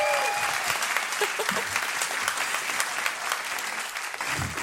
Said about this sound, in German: Vielen, vielen Dank. Und jetzt, das ist euer Applaus. Danke euch.